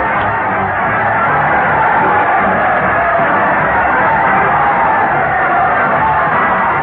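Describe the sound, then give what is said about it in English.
A large crowd cheers and shouts continuously as Fred Allen leads his parade of stars to the old Town Hall on the radio show Town Hall Tonight, a dense roar of many voices with scattered whoops and yells, loud and steady throughout. “Listen to that crowd cheer as Fred Allen leads his parade of stars to the old Town Hall.”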